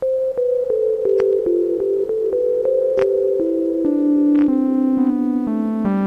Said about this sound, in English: I'm going to set that to reverb, because actually the basic simple sound sounds very nice with reverb on it.